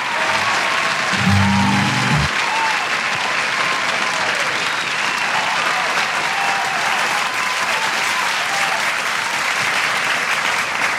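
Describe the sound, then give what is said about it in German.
Sustained applause from a large crowd, steady and dense clapping filling the whole stretch, with a brief low thump near the start and no talking over it. “Dat is echt een applaus waard.”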